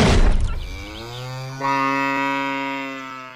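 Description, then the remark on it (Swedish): A cow lets out one long, drawn-out moo, loud, holding a steady low tone for about three seconds after a brief rough onset. No one speaks. “Och medan vi pratat har du passat på att spänna upp en ko här bakom oss.”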